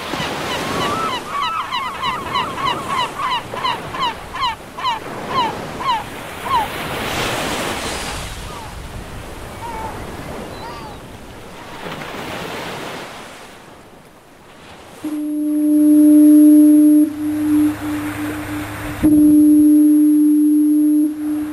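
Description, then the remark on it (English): Ocean surf washes steadily while seabirds call early on, then the lighthouse foghorn at Owl's Head on the coast of Maine blasts twice in long, deep, sustained tones over the waves. “Lighthouse Foghorn there at Owl's Head, the coast of Maine.”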